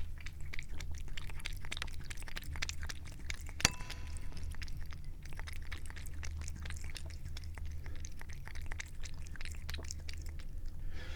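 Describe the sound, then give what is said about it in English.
A cat named Pippa laps water from a bowl in a quick, steady run of soft wet clicks, interrupted once by a sharp knock of a microphone accidentally tapping against the bowl, over a low constant hum with no talking. “we will now have a few seconds of my cat drinking water”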